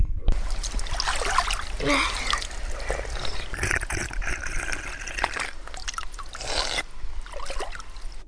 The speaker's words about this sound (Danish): Måske kan du høre det. Her kan man nemlig drikke vandet direkte fra de friske kilder, der løber ned ad bjergene.